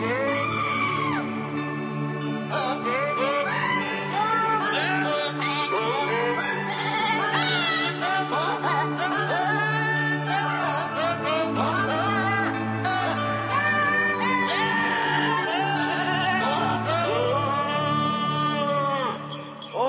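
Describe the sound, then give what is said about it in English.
Goats bleat in a steady stream of wavering cries set over a continuous musical backing, loud, arranged so the bleats follow a traditional Christmas carol melody for the whole stretch. “traditional Christmas carols sung by goats.”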